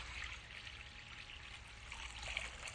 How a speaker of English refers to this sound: What he did after that, he poured water into the basin.